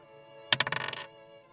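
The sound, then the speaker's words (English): Dice rolled for a dexterity saving throw in a tabletop role-playing game clatter across a hard tabletop in a quick burst of bouncing clicks that slow and settle within about half a second, fairly loud against a quiet background. “My dice are being kind of hinky, too.”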